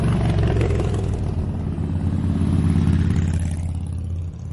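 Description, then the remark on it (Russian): Motorcycles roar past, a loud, steady low engine rumble that fills the whole moment and eases slightly toward the end, with no talking. “Вот они, мотоциклисты, а вы говорили.”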